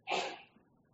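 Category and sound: human body sound, sneeze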